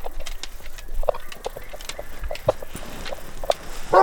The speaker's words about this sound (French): Ça jappe et ça aboie. C'est le chien qui mordille ses jouets en bois.